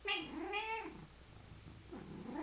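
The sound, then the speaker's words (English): A cat meows twice in quick succession with drawn-out, rising and falling cries, then lets out a third softer meow after a pause, fairly loud with no talking. “Every time you hear the cat meow, she's inviting you into a deeper level of embodied awakening.”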